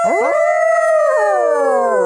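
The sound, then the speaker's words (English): A person imitates a dog's howl: one loud, sustained wail lasting about two seconds, rising at the start, holding, then sliding down in pitch, with no other talking. “And since Hex isn't here, howl noise.”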